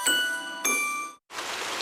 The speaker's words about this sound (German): Ja. Regen. Ewig grau.